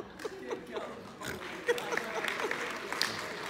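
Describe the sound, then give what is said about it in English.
An audience bursts into a patter of clapping that builds and fills the room, mixed with scattered chuckles and murmuring voices. “Again, you guys are clapping.”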